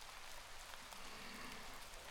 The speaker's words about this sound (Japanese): 降られなくてよかったね。明日も降るのかな。まあ雨嫌いじゃないから。